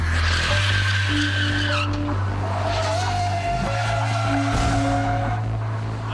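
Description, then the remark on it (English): Loud tires screech and skid over a steady roar of car engines as several vehicles slide at once in a growing pileup on the 405, with a couple of brief rough bursts suggesting collisions. No one speaks. “Then, in the middle, the growing pileup becomes a barrier to the oncoming traffic.”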